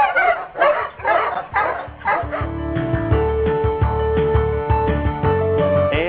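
A pack of sled huskies barks and yips in rapid, overlapping bursts for a couple of seconds, then a steady musical jingle with sustained tones takes over and carries on to the end.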